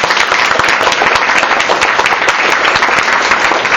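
Sustained applause in a church for a singer's performance, a dense steady wash of many hands clapping at once, loud and continuous throughout, with no voices standing out.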